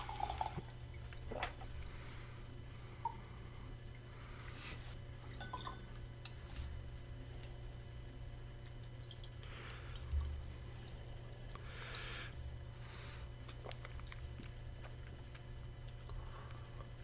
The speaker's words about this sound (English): So anyways, I'm going to put a little more whiskey in this glass. Mm-hmm. Maybe throw a couple drops of water in and see what we come up with.